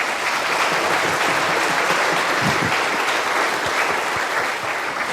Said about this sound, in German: Also ich finde, das ist auch ein Applaus wert.